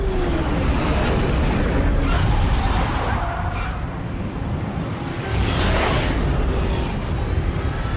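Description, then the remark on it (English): An enormous airliner's wheels touch down on the tarmac runway at Goose Bay Airport amid a loud, steady roar of engines and rushing air, with a couple of heavier surges of rumble as the plane settles onto the runway. “The wheels touch down on the tarmac.”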